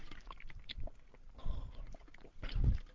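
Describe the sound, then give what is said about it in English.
Someone takes a few sips of water, with soft wet slurping and swallowing noises in short bursts and no talking. “I'm going to take a little sip of water here, excuse me.”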